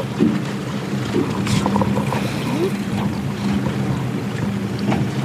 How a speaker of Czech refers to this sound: Tak my dál pokračujeme v plavbě po Lipenské přehradě